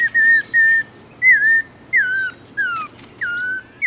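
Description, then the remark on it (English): An Audubon's oriole sings a slow, halting song of about six clear whistled notes, some wavering or slurring downward, fairly close and loud over a faint background hiss. “Nearby, an Audubon's oriole seems to sound like a child just learning to whistle.”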